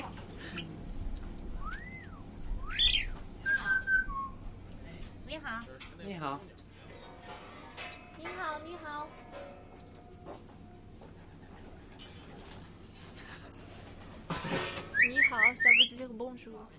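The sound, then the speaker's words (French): On a fine day, birds chirp and whistle in scattered bursts: a few short calls early on, then a quicker run of bright trills near the end, over a low, steady background murmur. “il fait beau aujourd'hui, donc les oiseaux sont très joyeux.”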